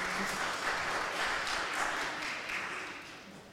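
A crowd applauds steadily, a dense wash of many hands clapping at once, holding strong before easing off slightly toward the end.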